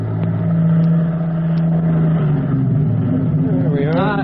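A car engine hums steadily at a low pitch, then shifts and winds down as the vehicle slows and pulls to a stop in front of a firehouse, with a rising whine near the end.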